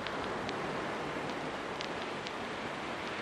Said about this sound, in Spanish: ¿Escuchas el mar?